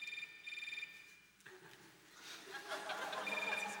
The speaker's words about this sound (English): The concert begins with a single person ringing. Their phone rings, and there's a kind of lighting system, which is video projection onto the audience from above, in which whoever's ringing has a spotlight on them